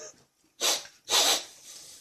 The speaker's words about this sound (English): Yeah, keep sniffing.